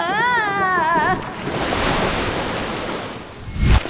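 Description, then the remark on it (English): A wobbling, warbling whistle tone gives way to a loud, steady rush of wishing-well water gushing and exploding up out of a well, roaring for a few seconds, then ending with a deep thump. No one speaks. “That water, it's going to explode up the well.”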